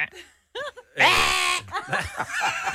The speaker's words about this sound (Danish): Hvad var scenariet? Det var jo selvfølgelig en ged, der går igennem en rusten havelåge.